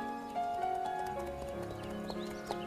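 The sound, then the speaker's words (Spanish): Horse hooves clip-clop at a steady walking pace as two people ride out on horseback to a river, clear, over a sustained musical drone, with a brief whinny-like rise near the end and no talking. “Con la aprobación del médico salieron a caballo Rodolfo y Emma y se apearon junto al río.”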